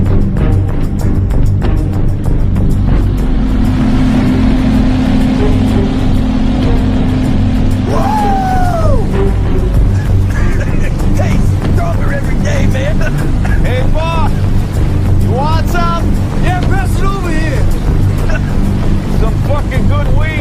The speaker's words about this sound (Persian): فرمانده دلم میان سمت شما با یه قایق مدل سی. آره میبینیش؟ داره میاد، داره میاد.